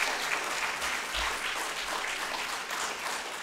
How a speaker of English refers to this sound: Give him another round of applause for doing that.